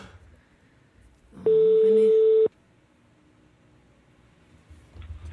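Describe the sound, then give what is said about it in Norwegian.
A single loud, steady ringback tone lasts about a second, a flat electronic buzz heard while a phone call connects to a person with a search request. Faint low murmuring sits before and after it. “Nu ringer vi op til endnu en, der har en efterlysning.”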